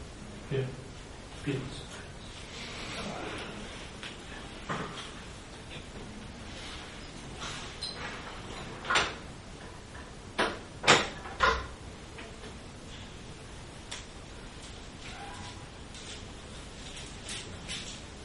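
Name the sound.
door being opened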